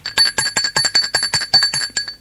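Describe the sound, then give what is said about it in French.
A doorbell at a home's front door rings in a rapid, rattling electric trill for about two seconds, with bright, high metallic tones pulsing quickly and evenly, and no voices. “On a sonné à la porte.”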